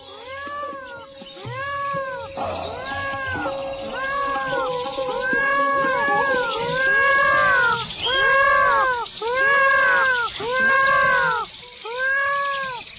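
Peacocks call over and over, a steady run of loud, nasal, wailing cries with a rising-and-falling arch, some overlapping, with no talking throughout.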